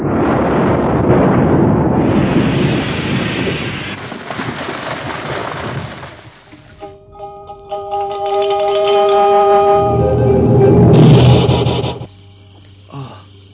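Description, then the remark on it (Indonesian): A loud, roaring explosion from a sword strike rumbles for several seconds, then fades into a sustained ringing, shimmering metallic tone that swells before cutting off; no one speaks. “Aku seperti mendengar suara ledakan keras dari arah sana datangnya. Dan sepertinya suara ledakan pedang Naga Puspa.”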